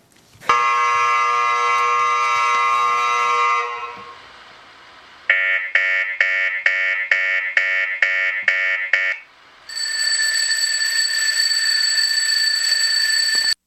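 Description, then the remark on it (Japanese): Three loud electronic buzzers, each with a different tone, signal the start of the programme VUCA時代に挑む中小企業: a steady harsh buzz, then a rapid pulsing beep repeated about ten times, then a higher steady tone. “音色の違う3つのブザーを合図に始まりましたが”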